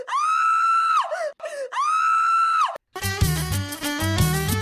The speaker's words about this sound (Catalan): Han passat molts anys d'aquesta història i no sabem si Sidaka segueix encadenat a la muntanya, però els habitants de Pakistan, quan arriba la nit, encara dormen amb alguna llum encesa i en la foscor de la nit, de tant en tant, s'escolta algun crit.